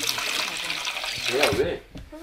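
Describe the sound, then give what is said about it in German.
A 9-year-old girl pours milk steadily into a simple black pot for breakfast tea in a village in the Ngong Hills near Nairobi, Kenya, a continuous splashing gurgle lasting a couple of seconds, with a brief voice audible partway through before the pouring tapers off. “Sie holen das Wasser und bringen Feuerholz, erklärt sie, und gießt die Milch in den einfachen schwarzen Topf.”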